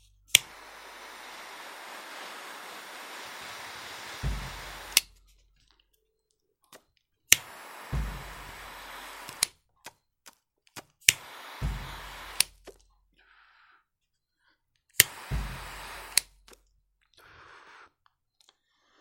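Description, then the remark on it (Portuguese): A butane torch lighter clicks and ignites into a steady roaring hiss, then fires again in several shorter bursts with quiet pauses between, as it is used to light a cigar's tobacco. “E eu vou usar aqui o maçarico, tá?”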